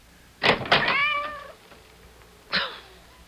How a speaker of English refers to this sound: I didn't know he was still out. I thought we'd already let him in. That cursed cat! Go away! Away! He's soaking wet, dripping with water.